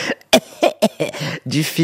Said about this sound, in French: et derrière, une vieille qui tousse, et ensuite, ben, c'est le drame.